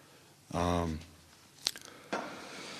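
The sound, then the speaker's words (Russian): A brief voiced murmur, then a quiet pause broken by a couple of sharp little clicks and a soft wet burst, like someone taking a sip of water from a glass. “Сейчас, секундочку, я сделал глоточек, извините.”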